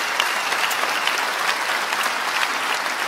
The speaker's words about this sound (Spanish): Y quiero que tomemos 5 segundos para celebrar a Jesucristo con un aplauso a Él, porque Él se lo merece.